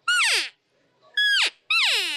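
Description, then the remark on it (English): Three loud, nasal cow calls blown on a dual-chamber game call with throat and nasal chambers, each a short bright mew that slides downward in pitch, the middle one dropping most steeply. No one speaks. “Now, dual chamber technology, throat and nasal.”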